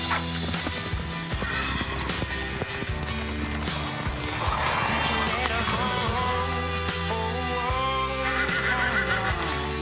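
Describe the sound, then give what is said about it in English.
A horse whinnies in a Budweiser commercial amid a dense, steady wash of music, the neigh rising partway through and only moderately prominent against the backing track. “Puppies, horses, best friends.”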